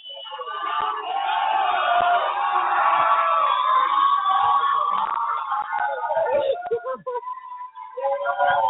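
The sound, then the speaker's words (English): A large crowd roars with sustained cheering, shouting and crying as Kentucky county clerk Kim Davis is freed, appearing with Huckabee; loud and continuous for several seconds, with whoops and cries rising above the din before it briefly dips and swells again. “I thought it was a news conference, not just crying and cheering.”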